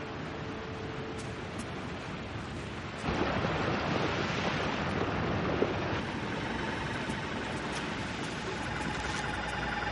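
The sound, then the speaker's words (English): A rushing chocolate waterfall in a chocolate factory roars steadily as it mixes and churns the chocolate, a dense wash that swells noticeably louder a few seconds in and then pours on without a break, no voices heard. “By the way, no other factory in the world mixes its chocolate by waterfall, my dear children.”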